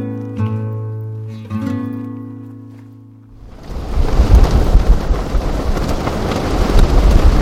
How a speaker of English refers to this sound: This sound could be a yak dung fire inside a stove, or rain falling on a roof, but it's the wind ripping through 1,000 prayer flags on the north side of the mountain.